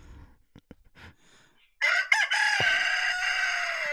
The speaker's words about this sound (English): The own goal of the week, obviously, I spoke about this last week, but I am fostering a rooster. Yes. And this is what I get every single morning at 6 a.m.